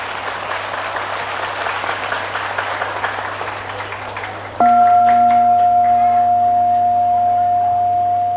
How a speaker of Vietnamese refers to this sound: Nếu các con cảm thấy rằng cái đề nghị này đó là hữu ích đó, thì các con hãy tự dâng cao một tràng vỗ tay thật lớn để tán dương mình.